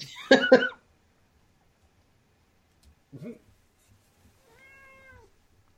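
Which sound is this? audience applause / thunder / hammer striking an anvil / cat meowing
cat meowing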